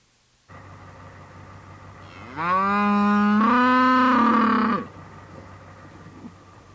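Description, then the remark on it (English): A cow in a pen full of cows and calves lets out a single long, loud moo, rising and then holding steady, over a constant low background hum. No one speaks. “They drove in his pickup to a pen full of cows and calves.”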